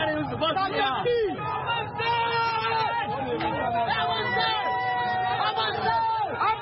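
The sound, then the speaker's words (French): A crowd protesting a finance bill marches toward the square facing the Parliament: a dense, steady hubbub of many overlapping voices talking and calling out at once, loud throughout the whole stretch with no single voice standing out. “Les organisateurs sont débordés et la foule décide de marcher.”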